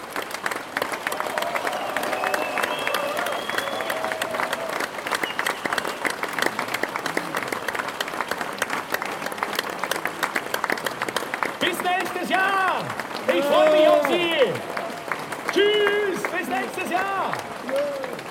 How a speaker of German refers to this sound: dass Sie immer noch klatschen und das ohne vorgehaltene Waffe.